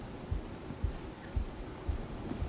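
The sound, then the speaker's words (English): A steady heartbeat thumps in a regular rhythm, five deep, muffled beats about half a second apart, over a low background hum with no voices. “Or hug your loved one so attentively that you feel her heartbeat.”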